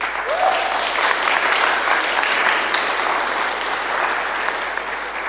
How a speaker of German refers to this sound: Euer Applaus.